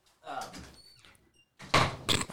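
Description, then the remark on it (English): A couple of solid thumping knocks on a door land near the end, preceded by a moment of quieter voices and background noise. “I was wondering who the fuck was knocking.”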